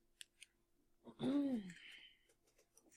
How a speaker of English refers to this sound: So I have, I'm going to use this scissors. All right. It's easier.